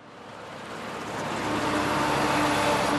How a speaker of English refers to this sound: Big blue trucks filled with black boulders race each other out of a coal mine. This region is the largest coal basin in China, and these trucks are barreling down the highway to Beijing.